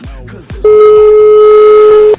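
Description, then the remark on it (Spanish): A loud, steady telephone ringback tone sounds once for about a second and a half, a single sustained buzzing beep heard while an outgoing call to a contest winner connects, with faint background murmur just before it. “Voy, Venga, vamos a ver si nos cogen el teléfono. Vale, llaman.”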